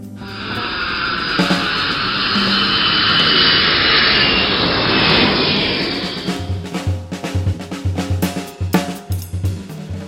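A loud, steady jet engine roar with a faint whine running through it, from a jet airborne on a flight from Antalya to Keflavik, Iceland, dominating the first six seconds before fading out under other, more rhythmic sounds.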